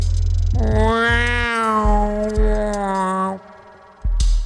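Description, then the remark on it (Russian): A drawn-out, cat-like meowing wail rises and holds for about three seconds, loud, over a steady low rumble with occasional dull thumps, then cuts off abruptly. “«Как будто кошку придавила», — сказала Айрис.”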